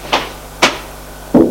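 Two sharp knocks on a door by a police officer, about half a second apart, followed by a pause and then a duller, muffled thump or rustle at the end.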